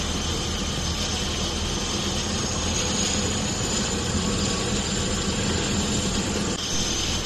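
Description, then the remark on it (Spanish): Steady, loud noise of Galeno, a medical rescue helicopter serving Hospital San Pedro, fills the whole recording: a continuous engine whine with a rapid, churning rotor throb underneath, unbroken, with no voices. “Lo mejor de Galeno, de este helicóptero, es que reduce el tiempo de traslado de pacientes en situación de emergencia vital.”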